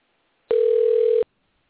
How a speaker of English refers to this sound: Well, they're making a phone call.